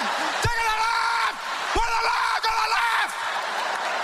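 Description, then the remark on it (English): A voice imitates eight high-pitched women screaming at the top of their lungs, letting out three loud, sustained shrieks in quick succession, each held steadily before breaking off, forceful with no other sounds around it. “And then eight women scream at the top of their lungs for 2 minutes straight.”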